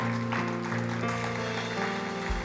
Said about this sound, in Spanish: Regálale un fuerte aplauso al Dios Todopoderoso.